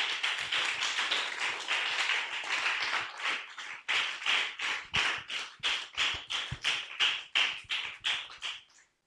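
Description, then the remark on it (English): An audience claps for Jesus, first in a dense, scattered burst, then settling into loud, steady rhythmic clapping in unison before stopping. No voices are heard. “Clap for Jesus.”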